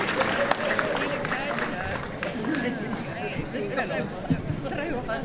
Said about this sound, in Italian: Quindi grazie, fatevi il primo applauso che lo meritate, anche per aver atteso fino a questo momento.